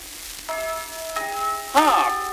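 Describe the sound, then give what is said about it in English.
A clock chime strikes three times, about half a second apart, each bright ringing tone sustaining and overlapping the next. The third strike is louder and wavers slightly as it rings. “Hark, listen to the chime.”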